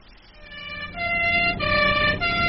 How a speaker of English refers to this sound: Hey? What? What was that? Oh, anything happened in a warehouse? No, sir. It's an ambulance.